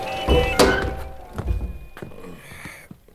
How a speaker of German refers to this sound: Ich möchte das Fenster schließen. Man versteht ja sein eigenes Wort nicht mehr.